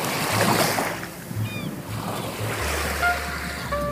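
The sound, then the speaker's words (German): Broad, steady wash of Pacific Ocean surf on a beach in California in the morning, with wind rumbling low and a few faint gull calls drifting over the top; no one speaks. “An unserem letzten Tag in Kalifornien gehe ich morgens an den Pazifik. Ich beobachte die Wellen, die Möwen, die Jogger.”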